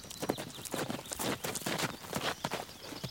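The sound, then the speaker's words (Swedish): A horse's hooves clip-clop in a brisk, steady rhythm as a rider rides across fields, each sharp strike distinct, with no voices over the hoofbeats. “Hon flyger fram över fälten med en perfekt hållning på hästryggen.”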